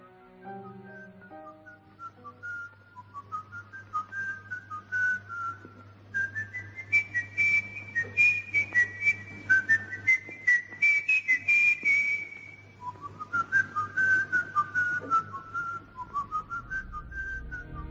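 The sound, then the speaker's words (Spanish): A clear, sustained whistled melody from a film, whistled by director Fritz Lang dubbing for the character played by Peter Lorre, carries on for the full length, rising and falling in phrases over a low steady hum, with no one speaking. “Pero como quiera que el actor que interpretaba a Curten, Peter Lorre, era incapaz de silbarla bien, fue doblado por el propio Fritz Lang, y todos los silbidos que se escuchan durante todo el metraje de la cinta.”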